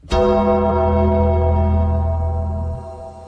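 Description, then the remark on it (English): A single deep bell toll, the Undertaker bell sound effect, rings out with a sharp strike and a long, resonant hum that lingers loudly for a few seconds before starting to fade. No voices accompany it. “I don't know if that deserves the Undertaker bell.”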